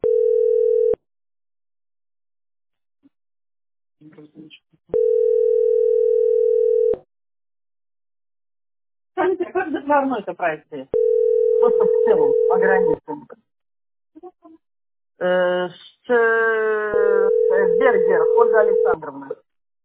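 A steady ringback tone on a phone line to the company Teploenergosbyt SPB repeats four times, each long beep followed by a pause, with no answer. People talk between and over the later beeps.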